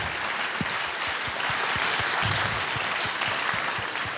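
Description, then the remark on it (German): Steady applause from a crowd for the people who built the stage and run the technology, dense overlapping claps at an even loudness throughout the few seconds, with no one speaking over it. “Ein Applaus.”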